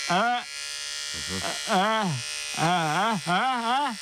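An electric razor buzzes in several short bursts, its droning pitch dipping and rising with each pass, over a steady hiss in the background.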